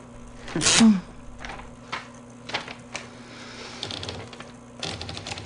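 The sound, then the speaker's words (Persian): A sharp burst of noise, then slow, scattered typing as a person types their own obituary, a handful of separate key clacks spaced irregularly over a few seconds. The clacks are moderately loud, and no one speaks. “این منم که نشستم تا خبر مرگم رو تایپ کنم.”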